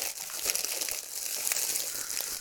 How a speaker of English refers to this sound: Fucking crinkly bags, not white. Oh. the sound you want to hear.